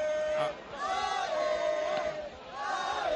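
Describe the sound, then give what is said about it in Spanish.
A football crowd at a Huesca match shouts and chants in a sustained roar, with massed voices rising and falling in pitch and a brief dip in loudness midway. “Cómo anima la gente, ¿eh? Esos gritos son para...”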